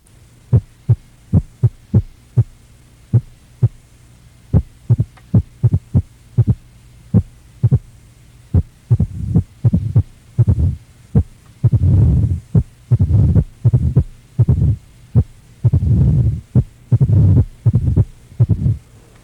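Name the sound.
heart sounds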